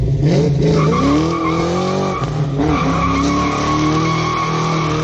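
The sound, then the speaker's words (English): Cars skid with long, loud tire squeals sliding up and down in pitch, layered over a steady engine roar, continuous for the whole stretch with no talking. “Neighbors who live here are fed up with the noise. They're tired of hearing this.”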